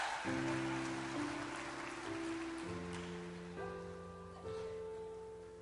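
A church audience applauds a pastor in a steady, dense wash of clapping, with sustained keyboard chords ringing underneath and shifting a few times.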